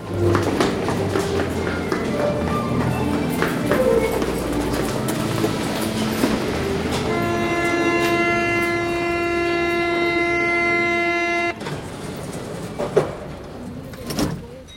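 A metro train rumbles and clatters along the rails, with a steady, sustained whining tone rising over the noise for a few seconds midway before it cuts off into rattling.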